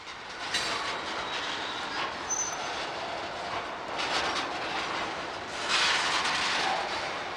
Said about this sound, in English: This Burlington Northern Santa Fe train, pulling dozens of black tanker cars, slowly runs through Chicago's near west side, heading slightly downhill toward a curve.